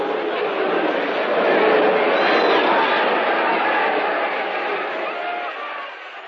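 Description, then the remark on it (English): A large boxing crowd jeers and roars in a dense, continuous wall of many voices, loud, swelling slightly in the middle before easing off toward the end, deriding a boxer who sank to his knees and was counted out in the fifth round. “And with the crowd's derision echoing in his ears”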